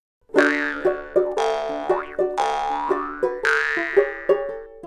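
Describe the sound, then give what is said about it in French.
Four springy cartoon boings, the story character Bouille's four hops across water lilies, bounce along in a steady rhythm, each with a twangy, wobbling pitch slide, separated by quick plucked notes; fairly loud, with no voices. “Après 4 bonds sur les nénuphars, elle aperçoit Plif et Plaf, ses copains crapauds.”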